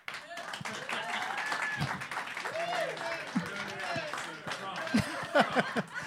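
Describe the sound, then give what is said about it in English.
An audience gives a steady round of applause lasting several seconds after the film title My Best Friend's Wedding is given as an answer, the dense clapping mixed with overlapping voices, murmurs and a few short laughs or calls rising toward the end. “I just never heard a title said with so low energy get a round of applause.”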